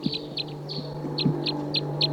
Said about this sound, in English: So recording the wild birds here.